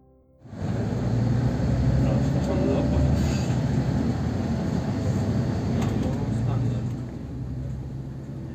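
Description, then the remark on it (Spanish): A green bus rolls into the city with a steady, loud low engine rumble and road hum that kicks in after a brief quiet start and holds evenly throughout, with faint rattles on top. “Entro a la ciudad en un autobús color verde.”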